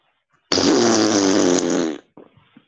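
fart

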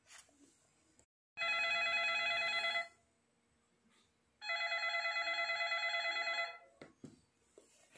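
office telephone ringing

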